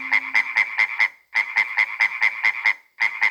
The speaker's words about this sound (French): Le matin, il est si fatigué qu'il n'entend pas la grenouille réveil.